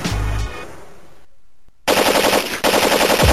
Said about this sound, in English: If you're not careful, you might hear this explosion.